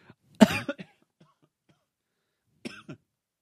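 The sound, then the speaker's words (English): A sharp cough bursts out, followed by a couple of smaller throaty catches, then after a quiet pause a second, softer cough-like clearing of the throat. “Sorry, I had to cough.”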